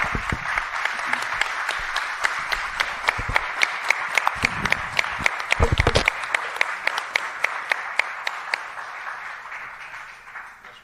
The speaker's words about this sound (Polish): Ja myślę, że gorące brawa dla twórców filmu.